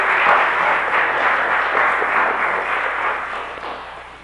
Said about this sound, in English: Thank you all very, very much. Can we give them a little round of applause here, please?